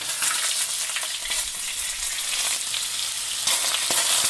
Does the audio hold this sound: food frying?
yes